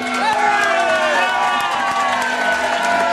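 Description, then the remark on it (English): A loud, dense crowd at a post office roars and cheers continuously as a man rushes in with an envelope just as the postal worker is closing up, many overlapping voices blending into a sustained wall of excited shouting. “The crowd is amped up.”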